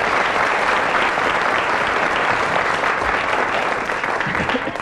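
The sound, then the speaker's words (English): A large audience applauds loudly and steadily, a dense wash of clapping that holds at full strength for several seconds before easing slightly at the end. “Let's have another big round of applause”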